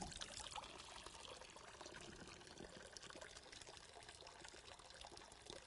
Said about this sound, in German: Und wenn der Schwamm sich voll Wasser gesaugt hat, dann hole ich ihn raus.